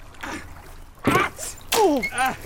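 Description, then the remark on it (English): A sharp, wet slap of a wet trout hitting a face, followed by startled vocal yelps and gasps with a faint splashing quality in between. “There's nothing like a slap in the face with a wet trout.”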